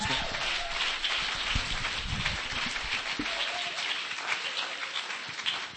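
An audience gives a speaker a round of applause, with steady, dense clapping that holds at an even level for about six seconds, a continuous crackling wash of many hands with no voices over it.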